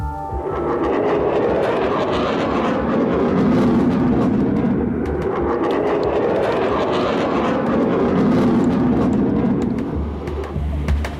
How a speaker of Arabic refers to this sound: صوت شو هذا؟ صوت طيران. ومعظم الناس بتخاف من هذا الصوت مش من المطر.